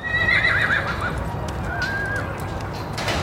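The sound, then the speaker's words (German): A black mustang whinnies in a shaky, wavering call, then gives a shorter second neigh, with hooves shuffling and clopping over steady outdoor background noise, as a handler slowly approaches it holding a rope halter. “Das will er dem schwarzen Mustang heute zum ersten Mal anlegen.”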